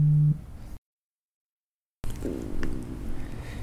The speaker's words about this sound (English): Was that your stomach? That was my stomach, yeah. Dude, I heard that over the microphone.